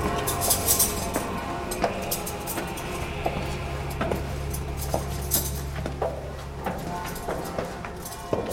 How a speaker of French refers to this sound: c'est les cloches de Saint-Pierre que vous entendez, et puis de l'église paroissiale, parce que la messe va commencer